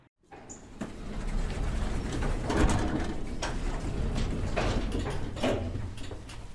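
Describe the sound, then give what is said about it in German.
A steady mechanical rumble of a cramped elevator in motion, punctuated by irregular creaks and knocks, with no voices present. “Du weißt ja, wie sehr mir die Enge in diesem knarzenden Fahrstuhl zu schaffen macht.”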